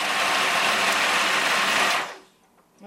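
A food processor with a chopping blade grinds roasted acorns into acorn meal with a loud, steady, gritty whir for about two seconds, then cuts off abruptly into near silence. No one speaks.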